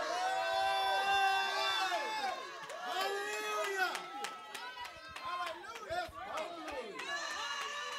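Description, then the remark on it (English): An audience yells and cheers during a sermon, many raised voices overlapping in a loud, sustained roar with scattered clapping, holding steady for the whole stretch with brief surges of shouting. “I don't know about you, but if you know what I'm talking about, start yelling.”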